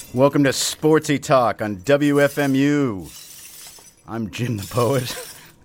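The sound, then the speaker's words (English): Glass shards shatter and clink in a noisy, crackling burst, continuing as a bright jangle beneath a man's voice as he speaks over it. “What you're hearing is the broken glass shards of the dream that once was the Seahawks winning the World Series.”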